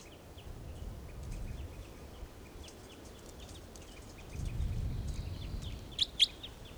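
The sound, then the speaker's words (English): Wild birds, including a toucan, call nearby in scattered short chirps over a low rumbling background, with a couple of sharper, louder calls near the end. No one speaks. “Wild birds are calling a toucan nearby.”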